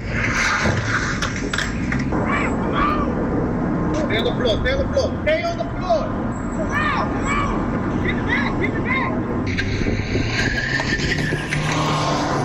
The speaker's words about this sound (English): Got it started at the end, and then the car took off.